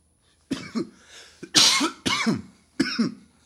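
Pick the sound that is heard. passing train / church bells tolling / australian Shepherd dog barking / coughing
coughing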